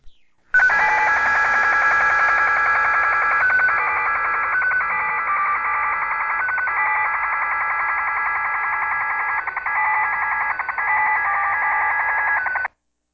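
A continuous electronic modem tone, busy and warbling like a slot machine, made of steady stacked tones that hold for about twelve seconds at an even, fairly loud level with tiny periodic flickers.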